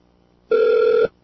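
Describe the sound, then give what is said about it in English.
A single short electronic telephone ring, a steady buzzing tone lasting about half a second, clear with no one talking. “If we don't, soon, why let's answer the phone again.”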